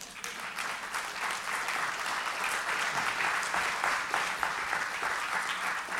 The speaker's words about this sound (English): Why don't we clap to God for that?